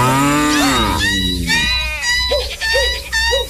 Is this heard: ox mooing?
yes